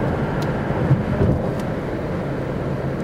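A steady, low road-and-engine rumble from inside a moving Mustang being driven during a broadcast, continuous and fairly loud throughout, with no voices or distinct events standing out.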